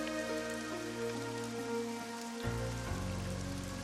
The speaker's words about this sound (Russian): Град перешел в сильный ливень, но на севере, за расходящимися тучами, Эдди заметил проблески синевы. Гроза вскоре должна была утихнуть.